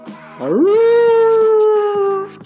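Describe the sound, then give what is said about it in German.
A voice imitates a werewolf's howl: a single loud wail that swoops upward and then holds a long steady note for about two seconds, with no talking over it. “Und der Werwolf jault.”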